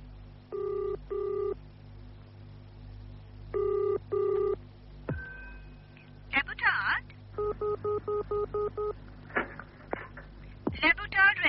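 A telephone rings twice in quick double bursts, then a rapid series of short dialing beeps follows as a call is placed to Le Boutard Restaurant, with a few brief electronic line noises in between, clear.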